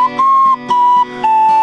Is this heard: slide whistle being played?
yes